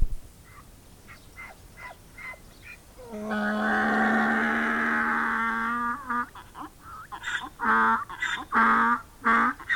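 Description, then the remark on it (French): A donkey brays loudly: a long, strained, honking note followed by a rapid series of rhythmic hee-haw gasps. No voices are heard. “Mais maintenant que nous allons nous quitter, je voudrais te chanter quelque chose avec ma belle voix d'âne, cette voix qui fait l'admiration de tous ceux qui l'entendent.”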